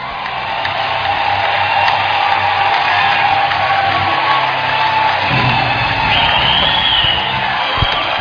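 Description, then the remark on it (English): An audience at a religious meeting claps and cheers loudly and steadily, a dense wash of hand claps mixed with shouts and whoops that carries on without a break for the whole stretch. “Clap your hands.”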